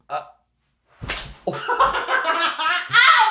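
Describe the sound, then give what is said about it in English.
A single sharp slap of a hand striking a woman, followed immediately by loud, strained vocal cries and excited voices. “I hit her.”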